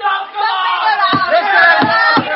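An angry crowd clamors outside a closed door, many voices shouting and yelling over one another in a loud, continuous din, punctuated by a few heavy thumps.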